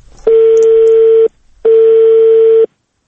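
A telephone rings twice, two loud steady electronic tones of about a second each separated by a brief pause, clear with no voices.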